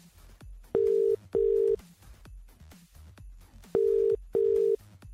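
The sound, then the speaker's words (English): A phone ringing tone plays while a call to a Secret Santa car service winner waits to connect: two loud double-pulse rings of a steady pitched tone, separated by a pause, over faint rhythmic background thumps. “So the number is in the phone. Let's give them a ring.”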